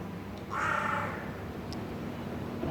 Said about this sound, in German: Seit ich bei Thomas Bunior am Heidelhof war und auch mehr über die Krähen nachgelesen habe, weiß ich sicher, es handelt sich um Rabenkrähen. Sie sind vollkommen schwarz.